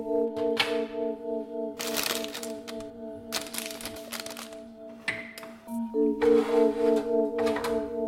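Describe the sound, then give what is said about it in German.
A bag full of pralines from a kitchen cupboard crinkles in several loud, crackly bursts with short pauses between them, over a steady low tonal drone that continues throughout. “Hier zwei Tafeln Schokolade, da eine atemberaubend knisternde Tüte voller Pralinen.”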